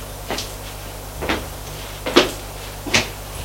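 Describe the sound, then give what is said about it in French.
A door to a toilet (WC) off an apartment hallway being opened, heard as four short latch clicks and knocks at fairly even intervals, moderately loud over a steady low hum, with no voices. “En plus de celle de l'appartement, il ouvre une porte, c'est un sort d'eau WC.”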